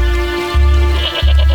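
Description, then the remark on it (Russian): A goat bleats in one loud, drawn-out, wavering cry, with a low rumbling pulse beneath it and no one speaking. “Козу твою доить не буду.”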